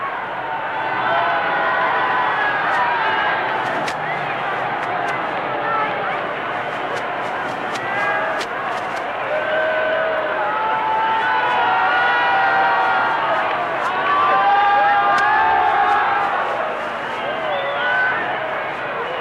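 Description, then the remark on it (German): A large crowd in Berlin cheers and shouts continuously as President Kennedy and Chancellor Adenauer ride in a car at the entrance to Gotzkowskistraße, a dense roar of many voices with occasional clapping, steady and loud throughout without letting up. “Jetzt gut zu sehen, vorne stehen Präsident Kennedy und Bundeskanzler Adenauer und in der Mitte etwas versetzt nach hinten der regierende Bürgermeister von Berlin und Jubel über Jubel.”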